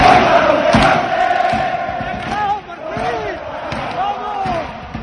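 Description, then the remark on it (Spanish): A loud stadium crowd at Estadio Helmántico in Salamanca roars and shouts, celebrating Adri Carrasco's 86th-minute winning goal in a 1-0 home win. A dense wall of voices, with chanting cries rising above it and thumping hits scattered throughout, is sustained for the whole stretch. “en el 86 hizo el gol de la victoria. 1-0 final y el Estadio Helmántico se llenó de felicidad después de casi 3 meses sin celebrar una victoria como local.”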